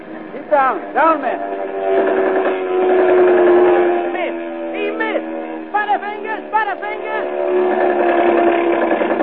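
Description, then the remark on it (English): German Junkers dive bomber planes circle and roar in on a group of men clinging to a tiny raft, with a sustained, whistling engine whine that holds a steady pitch, while short rising and falling wails cut through it at intervals. “Now the planes circle and come roaring in for the kill.”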